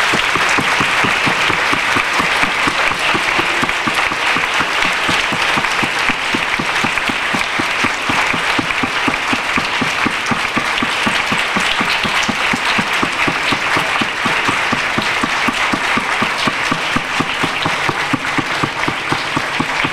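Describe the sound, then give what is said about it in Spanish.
Sustained loud applause from a large audience for those sent to fight in the Malvinas, steady dense clapping filling the whole stretch without letting up, with no one speaking over it. “Yo primero lo que quiero pedirles es un fuerte aplauso para ellos.”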